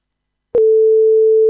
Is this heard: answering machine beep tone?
yes